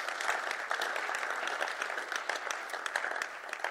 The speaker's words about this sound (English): You can clap for the Lord Jesus.